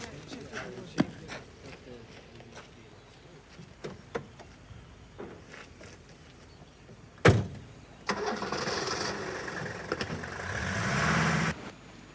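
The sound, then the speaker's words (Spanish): A few clicks and a sharp door slam as a man gets into his car, then the car engine cranks to life and runs in a steady, fairly loud idle for several seconds before cutting off. “monta en su coche.”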